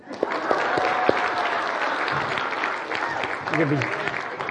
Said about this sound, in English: Folks, do me a favor. Let's all stand for a second. Now let's clap.